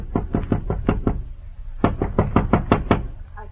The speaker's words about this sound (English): Well, as I've said, I'm Mr. Jericho, Special Claims Adjuster of the Judgment Day Insurance Company. I operate this way. Whenever I call on you, I... just find your door and knock.